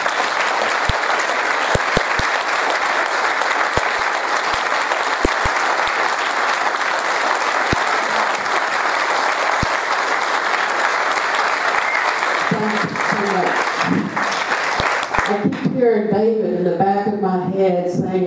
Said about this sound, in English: But if David impacted your life at all, can we please clap so we can hear it?